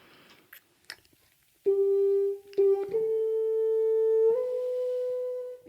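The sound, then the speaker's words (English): A violin played with a big black practice mute not meant for orchestral use gives a muffled, thin tone, holding a few long sustained notes that step upward in pitch, preceded by soft clicks and handling noises. “I must tell you, I'm putting in a big black practice mute, which is actually not meant for orchestral use, but it turns it into this.”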